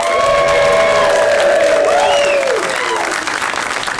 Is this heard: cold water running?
no